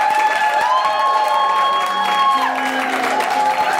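An audience applauds steadily at the close of the show Noble Pillage, with dense clapping, cheers and a few whoops, while sustained keyboard tones and musical notes play over the top.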